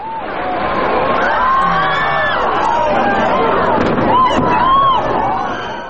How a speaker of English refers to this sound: Listen to part of that clip again. When the screams begin is when those nearby witness the plane strike the building. Then that gap until the sound of the explosion arrives.